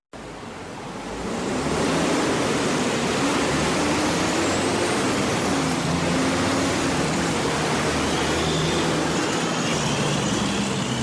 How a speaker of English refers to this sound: On a sunny afternoon, traffic is bustling through one of the busiest intersections in Morgantown on University Avenue. There are cars, buses, and even industrial trucks rumbling through this congested intersection every day.